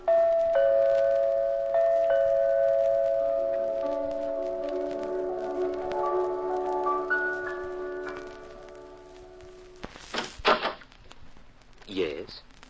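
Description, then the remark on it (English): A doorbell at Mr. Clark Standish's apartment at 6666 Park Avenue rings several times amid sustained, ringing piano music, followed near the end by a few sharp, noisy bursts. “You stick your finger on the doorbell.”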